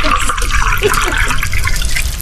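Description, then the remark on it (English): Wine being poured in a steady, continuous stream, with a fairly loud splashing, gurgling hiss that holds even for a couple of seconds. “Also, they've nicked my wine sound effects.”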